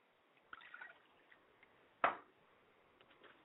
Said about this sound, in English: And then we open to the earth and say, Owatutu, Owatutu, Owatutu, and pour libation to the earth.